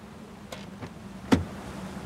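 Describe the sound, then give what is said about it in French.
A low, steady engine idle hums while a couple of soft clicks give way to one sharper door-like clunk as the driver climbs out of a 4x4 stopped in the middle of the road, straddling the white line. “Le 4x4 est arrêté au milieu de la route, à cheval sur la ligne blanche.”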